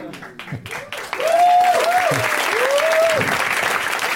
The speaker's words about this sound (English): Now is the point at which you clap excitedly.